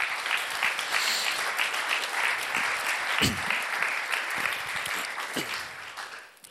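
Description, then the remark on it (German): Sustained audience applause welcoming a guest onto the stage, a dense wash of many hands clapping at steady volume for several seconds before gradually tapering off at the end. “Und wir geben dir einen herzlichen Applaus.”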